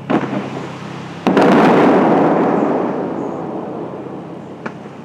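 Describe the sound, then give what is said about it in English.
High-powered water shooters of the fountain at the Bellagio Hotel, being tested by the crew, fire with a sudden loud boom, then a roaring hiss of spray that gradually fades, with a smaller pop near the end. No one speaks. “The crew tests a few of the fountain's high-powered shooters.”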